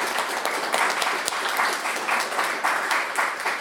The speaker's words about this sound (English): So we would like to, let's give her a big round of applause, and thank her for coming.